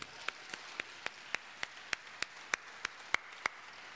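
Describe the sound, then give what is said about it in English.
Steady, evenly paced hand claps from a show audience applauding the bands who have already played, about a dozen sharp slaps in a few seconds, fairly faint, with no voices over them. “Everybody who's already played, clap for them.”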